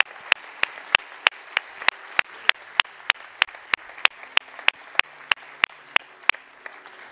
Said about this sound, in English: In fact, can we applaud those who have made that decision? We welcome them.